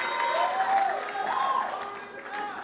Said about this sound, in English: Let me hear your loudest amen. Give Jesus a big clap as you take your seat.